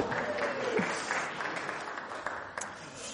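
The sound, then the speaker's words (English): An audience at a sermon claps steadily for about three seconds, a dense, even patter of many hands at moderate volume with no voices on top. “So for those of you who can work things out, 2 weeks ago I was preaching, then last week, and they were in, and this week they're in again, so they've had me 3 weeks in a row, so I think they deserve a round of applause, actually.”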